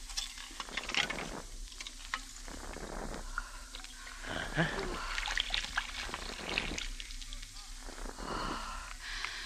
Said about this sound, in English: Loosen the screw, then pour off the top liquid.